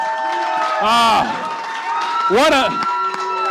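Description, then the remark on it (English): Two loud bursts of audience cheering and applause for Jeff Reuter on the show Extra Time, each swelling and fading within about a second, with bright whooping tones rising and falling over a steady background hum. “Let's give Jeff Reuter a big round of applause here.”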